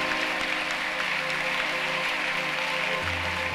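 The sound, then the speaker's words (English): Dense, sustained applause from a large crowd fills the space, a continuous wash of many hands clapping at steady loudness with no voices standing out. “Increase that clap of him because a door is opening for you.”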